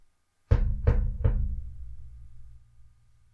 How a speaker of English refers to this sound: So that day she went on her errand of mercy and knocked at the door of Toad's cell.